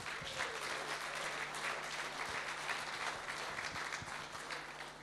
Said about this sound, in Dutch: Mag ik ook even van jullie allemaal een groot applaus voor deze mooie jazzformatie.